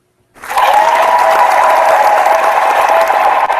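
After a brief moment of silence, loud audience applause bursts in and holds steady, a dense, continuous clatter of many clapping hands with no voices standing out.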